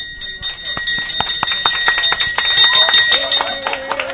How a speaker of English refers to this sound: We're in the chemotherapy suite at Iowa Blood and Cancer Care in Cedar Rapids, and there's been a graduation. That's what the bell means. An elderly man surrounded by his loved ones rings a special bell on the wall to celebrate a clean scan.